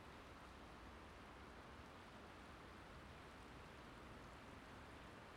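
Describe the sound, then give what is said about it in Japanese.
A steady, even rush of flowing river water heard from a mountain path, soft, with no breaks or changes over the few seconds and no voices. “ねえ、川の音が聞こえない？”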